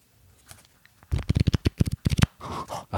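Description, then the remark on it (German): Thick cardboard cards are shuffled in a quick burst of dense, papery flicks and riffles, fairly loud, ending in a softer rustling slide. “Da klingen aber dann dick, also die sind ein bisschen pappiger, also haben schon dickes Papier, oder?”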